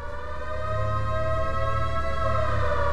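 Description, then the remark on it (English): A mine siren blares continuously with a steady, slightly wavering pitch, loud and sustained for the full duration over a low rumbling drone, with no voices present. “when you heard a siren blare.”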